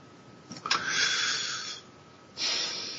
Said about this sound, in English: I can hear you breathing.